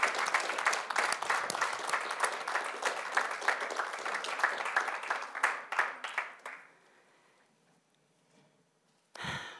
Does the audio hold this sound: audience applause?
yes